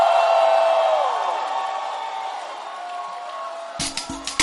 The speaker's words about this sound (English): Let's do this praise thing. Okay, have I got the accent? Let's do this thing. No? Okay, sorry. But we're going to do it, isn't it? Give the Lord a mighty shout!